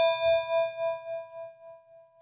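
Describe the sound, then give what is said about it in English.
A single bell strike, rung to mark the end of a segment, rings out clearly, its bright metallic tone sustaining with a gentle wavering shimmer as it slowly decays over about two seconds, with no voices present. “Let me ring the bell.”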